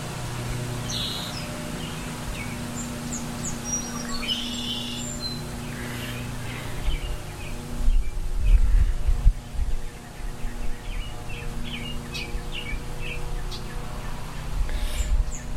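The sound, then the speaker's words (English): A robin in a honeysuckle thicket and a red-winged blackbird call outdoors, scattered high chirps and whistled phrases coming in short bursts over a steady low mechanical hum that thickens into rumbling in the second half. “And to your left is a robin in the honeysuckle thicket. Straight ahead of you is a red-winged blackbird.”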